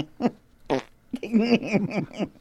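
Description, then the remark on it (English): A new noise toy makes a fart sound: two short sputtering blasts, then a longer, wobbling, squeaky raspberry that sputters out, with no one talking. “We now give you the 2022 Top 10 FART Awards”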